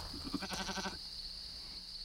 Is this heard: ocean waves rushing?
no